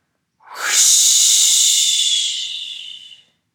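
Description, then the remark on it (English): A single long, forceful whoosh exhalation during a deep-breathing exercise, pushed out in a broad airy hiss, bright and steady for about three seconds before tapering off, with no talking. “Let's start by taking 4 deep breaths with that big whoosh exhalation.”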